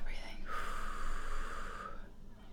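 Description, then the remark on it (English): A single long, deliberate deep breath, drawn slowly and steadily for about a second and a half, fairly loud, with no talking over it. “Okay, we're breathing.”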